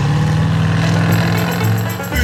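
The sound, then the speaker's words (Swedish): A loud old car engine roars and clatters with a rough, steady low rumble and harsh rattling, shifting in tone briefly near the end. “Det är inte varje dag du får åka en sån här skön kärra.”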